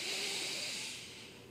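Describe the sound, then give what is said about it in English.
A long, breathy sniff drawn in through the nose by someone showing they can breathe through the nose, hissy, tapering off slightly toward the end with no talking. “I'm sniffing to show that I can breathe.”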